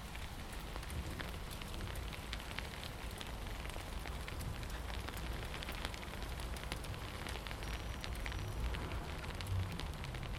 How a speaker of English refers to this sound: And now it's raining really heavy.